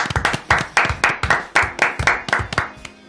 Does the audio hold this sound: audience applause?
yes